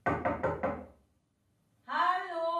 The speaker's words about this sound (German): Es klopft an seiner Wohnungstür.